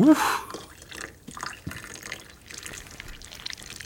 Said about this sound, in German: Wow, das Backpulver fängt ja richtig an zu schäumen. Das sieht toll aus.